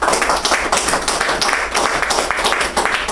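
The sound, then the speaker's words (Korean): A crowd applauds steadily to welcome a speaker about to give a testimony on recovering from gambling addiction with the help of his wife and children, many hands clapping at once in a dense, continuous patter that stays fairly loud for the whole few seconds, with no one speaking over it. “우리 박수로.”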